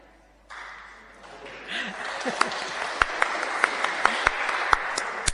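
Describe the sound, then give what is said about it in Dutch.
Applause from a crowd rises in after a brief pause following a sung welcome song, a dense steady patter of many hands with a few sharper, louder claps standing out at intervals, with some murmured voices mixed in underneath. “Je krijgt zelfs applaus.”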